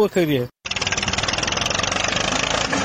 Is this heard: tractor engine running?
yes